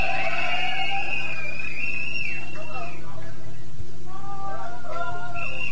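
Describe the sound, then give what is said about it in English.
A crowd at a house music event whoops and whistles, with several shrill, sliding whistles rising and falling over a dense, steady roar of cheering that carries on throughout. “Somebody go, woo!”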